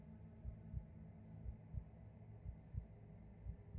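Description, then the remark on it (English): A low, muffled heartbeat thumps in steady double beats, roughly four lub-dub pulses over a faint droning hum, with no voices. “There is a throb. A throb at the base of your skull.”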